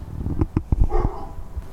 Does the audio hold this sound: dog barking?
yes